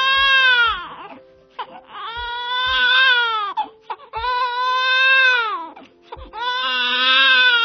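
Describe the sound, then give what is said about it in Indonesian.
A newborn baby boy wails loudly in long, strained cries, four sustained bursts broken by short gasping breaths, with no other sounds around it. “Suara tangis bayi yang memecah keheningan menyadarkan Permaisuri dari lamunan.”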